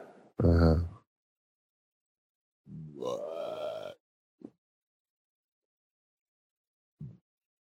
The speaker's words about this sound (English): Sorry. I'm a belching beaver over here.